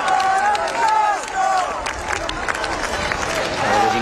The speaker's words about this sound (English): As the Pope appeared from his balcony of Gemelli Hospital, the crowds that had gathered to see him cheered and shouted his name.